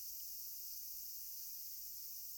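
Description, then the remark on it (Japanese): A continuous, high-pitched drone of cicadas buzzing steadily in the background on a hot day, unbroken and fairly soft, with no voices. “またセミもうるさくなってきたし、まだまだ暑いね。”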